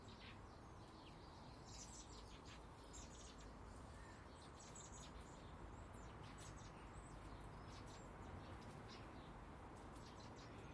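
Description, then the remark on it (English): Young blackbirds beg while being fed, in rapid, high-pitched chirps and squeaks, repeated in bursts throughout, over a steady low rumble of background noise; no one speaks. “Well, the young blackbirds are getting fed over to the right.”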